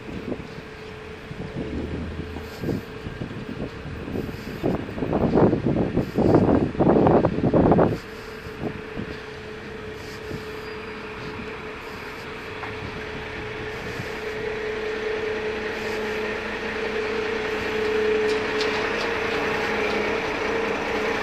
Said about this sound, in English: There you go. Cement truck.